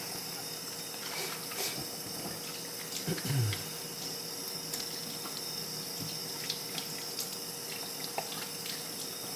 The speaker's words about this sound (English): Even though I wash my plate, I like to rinse it a second time. So warm it in there.